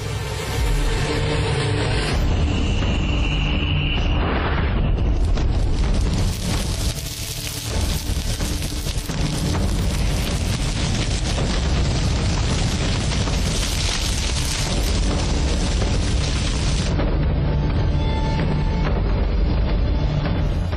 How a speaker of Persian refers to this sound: ظرف چند دقیقه آتش علفزار رو به خاکستر تبدیل میکنه.